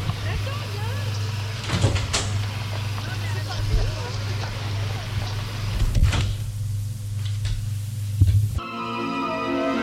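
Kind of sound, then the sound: household object, door opening and closing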